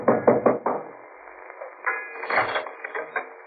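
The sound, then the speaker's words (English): Four quick, firm knocks on the door of a boat-rental place at a boat landing, evenly spaced, followed by a second or two of muffled clattering and rattling noise. No one speaks. “I knocked for Peterson.”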